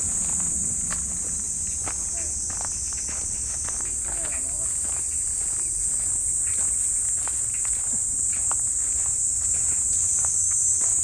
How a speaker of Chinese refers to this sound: 卡的这棵树底下听蝉鸣还挺清楚的。